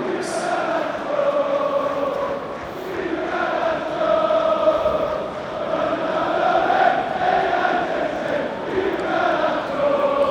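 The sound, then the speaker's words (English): Manchester United away fans sing loudly in unison after Garnacho scores to make it 2-0 in an away league game, a sustained chant of many voices that swells and dips in pitch and volume, carrying on without a break. “Viva Garnacho, listen to the away end”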